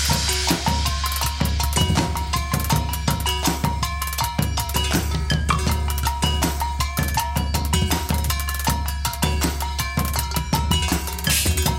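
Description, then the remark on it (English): Water-filled metal bowls are struck in a steady, looping groove, their ringing tones wavering and bending in pitch over a low sustained hum, with no voices. “Listen to how metal bowls filled with water help lay down a woozy groove.”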